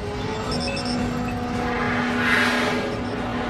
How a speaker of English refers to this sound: Battle sequence. Got to watch the CGI. Yeah. They spent a lot of money on it. Yes, we do. Enemy bombers over the city.